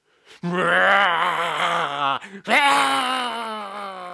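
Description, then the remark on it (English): Two long, loud, groaning roars, each about two seconds, with a wavering tone that slides slightly in pitch. They sound like a human voice imitating a tiger's roar, with a brief break between them. “The tiger roared more and more powerfully.”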